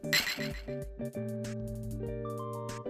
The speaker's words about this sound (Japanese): じゃあまずは乾杯しますか。乾杯。